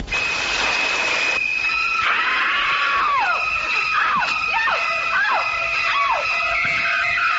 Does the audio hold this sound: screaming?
yes